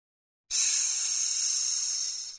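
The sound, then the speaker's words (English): A steady, sharp hiss like a snake starts abruptly after a half-second of silence and holds at even loudness for about two seconds, alone with no talking. “It's a snake.”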